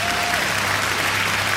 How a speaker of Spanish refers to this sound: ¡Eso se merece un aplauso!